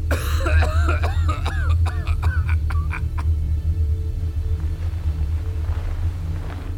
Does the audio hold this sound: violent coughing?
yes